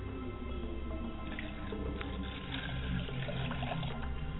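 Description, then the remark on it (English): Liquid being poured out as a libation during a prayer, a steady low trickle and splash with scattered drips running continuously for several seconds, fairly quiet, with no voices. “Iba, Baba, Iba, Yeye, homage to Father, homage to Mother, as I light the candle to my mother's spirit, I say Ashe, and I pour the libation.”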